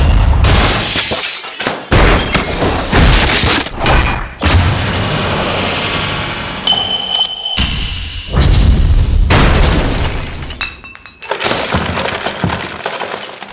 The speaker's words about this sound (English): from computer screen destruction to glass bottle smashes, light metal hits, to junky metallic crashes, and small wood splintering, to booming wood demolition. These outstanding specialty sound effects need to be heard to be believed, so here we go.